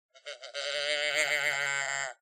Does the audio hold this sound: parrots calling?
no